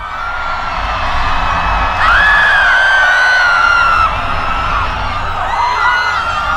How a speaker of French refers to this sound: Ah mais, c'est quoi ces cris? C'est horrible! Ce sont leurs prières que nous entendons. Mais... pourquoi toute cette panique? Ils savent qu'ils vont tous périr si Dieu n'agit pas.